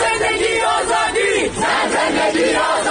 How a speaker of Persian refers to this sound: مردم حتی در محرومترین مناطق کشور این روزها فریاد می زنند زن زندگی آزادی.